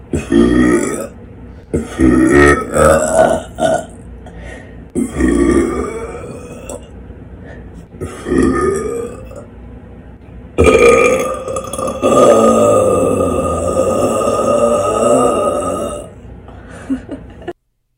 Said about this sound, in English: Yeah, those are deep burps.